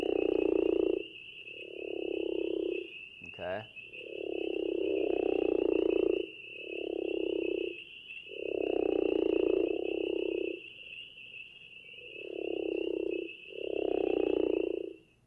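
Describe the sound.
A crawfish frog repeats a deep, snoring call about eight times, each roughly a second long with short gaps, loud, over a steady high-pitched insect drone.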